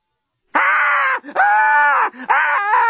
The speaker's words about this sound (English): Screamed